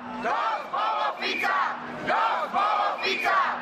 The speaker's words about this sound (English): The protests were organised by a pro-Ukraine group. As … reports, protesters in the capital Bratislava shouted, "Slovakia is Europe and enough of Fico."